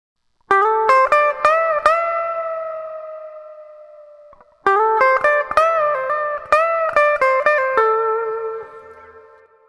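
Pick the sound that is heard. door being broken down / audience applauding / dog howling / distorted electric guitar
distorted electric guitar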